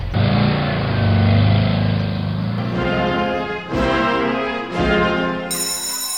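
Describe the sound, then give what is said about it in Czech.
A car engine runs loudly, revving up in a few rising surges before settling back to a steady drone, with no voices, as the car is driven off to test its newly finished brakes. “Tak, pánové, brzdy jsou hotový, jedu to vyzkoušet.”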